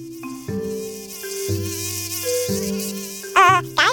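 Mosquito buzzing: several thin, steady whines overlapping and stepping in pitch, then a wavering, louder buzz swoops in near the end. No one speaks.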